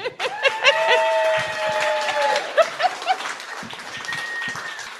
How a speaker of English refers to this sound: If everyone would please give a round of applause and welcome the mayor of Minooka, Rick Offerman.